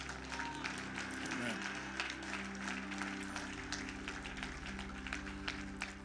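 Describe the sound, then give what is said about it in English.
An audience claps their hands in a dense, steady wash of applause lasting several seconds, layered over sustained low musical tones, with some voices mixed in. “Give you God a hand clap.”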